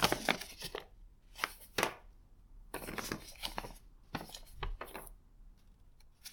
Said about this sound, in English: I need to shuffle around some paperwork, and then we'll start your session.